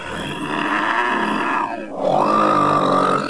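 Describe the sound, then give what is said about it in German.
Loud, rough snoring with a deep rasping rumble, a brief dip in the middle, then a drawn-out, higher-pitched wheezing breath: the wolf lying in bed in the little house, snoring, in the tale of Little Red Riding Hood. No one speaks. “Da ging gerade der Jäger an dem Häuschen vorbei und dachte bei sich, wie laut die alte Frau nur schnarcht.”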